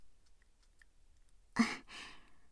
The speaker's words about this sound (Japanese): じゃあ、カーテンと扉の鍵閉めるので、ちょっとだけ待っててくださいね。